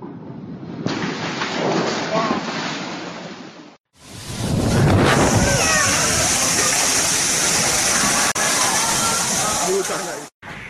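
Typhoon wind roars with heavy rain in a loud, steady wash of noise, broken by a brief cut about a third of the way in and a short dropout near the end.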